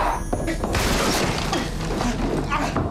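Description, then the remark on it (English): A loud crash as a boy bolts and slams into a chair, with clattering and rattling that continues for a few seconds before settling into scattered knocks. “Lucius moves and Danny bolts and collides with a chair.”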